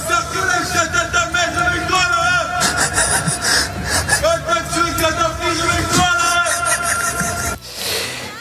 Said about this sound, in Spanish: Lo que estamos escuchando son los gritos de apoyo a Nicolás Sarkozy mientras se dirigía a ingresar en la prisión de la Santé.